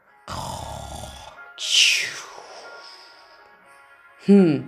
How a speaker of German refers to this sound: Jetzt schläft er schon wieder. Und schnarcht natürlich auch schon wieder.